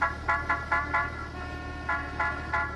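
Road traffic rumbles steadily while a car horn honks in short, rapid bursts: four quick toots, a brief pause, then three more, loud.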